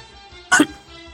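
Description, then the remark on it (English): One short, sharp cough into a microphone bursts out loudly against a quiet background with a faint low hum, then the sound fades back to near silence. “I coughed into the mic.”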